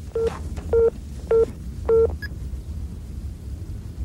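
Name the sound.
telephone keypad dialing tones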